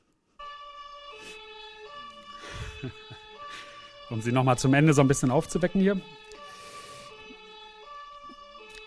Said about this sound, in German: Ich fand das jetzt hier aber einprägsamer, noch mal so ein Martinshorn zu bringen.